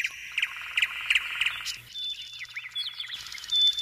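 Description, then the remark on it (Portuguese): Several birds sing and chirp together, a dense steady chorus of rapid high trills with sharper repeated tweets and short whistled calls rising over it, bright, no voices. “Ouça o canto dos pássaros, a serena alegria que há nos seus gorjeios, e deixe essa vibração penetrar em suas emoções, em todo o seu ser.”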